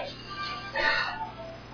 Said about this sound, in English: That's not my phone. Oh. Well, it's not mine. It's not my ring, and if mine rings, I'm not going to answer it.